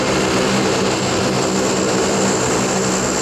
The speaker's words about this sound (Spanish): varios aviones de transporte se dirigen a la zona. Son aviones full equip, ¿eh? Están diseñados y específicamente construidos para operaciones especiales. Y pueden aterrizar en pistas improvisadas y en malas condiciones.